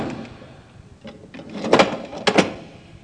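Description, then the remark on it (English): A heavy cell door in a mock-up of Wormwood Scrubs prison slides and shuts with a solid clunk, followed moments later by a second sharp metallic clack as it is locked, both loud after a quiet rustling start. “Okay, now, we just lock the door up.”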